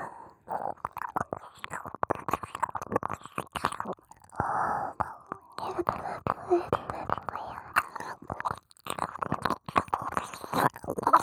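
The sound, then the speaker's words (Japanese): Wet mouth sounds of ear licking: repeated smacking, slurping and soft breathy noises in an irregular rhythm, moderately loud, with no clear speech. “でも、お耳舐めはやめたげないけどね。”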